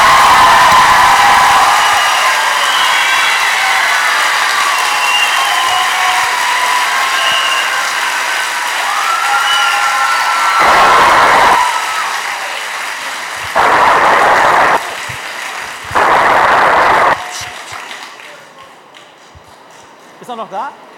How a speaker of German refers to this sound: Danke dir für deine Antworten und das ist dein Applaus. Die ganze Schule bedankt sich ganz herzlich bei dir.